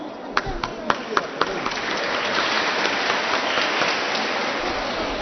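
A few sharp, separate claps start things off, then quickly swell into steady, dense applause from a crowd welcoming a choir from the old parish of Nin, which will perform two songs. The applause keeps going at an even level to the end.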